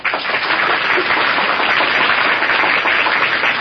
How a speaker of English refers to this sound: Thank you, Mr. Welles. And let's all take Agnes Moorhead's suggestion and give the cast the volume of applause they deserve.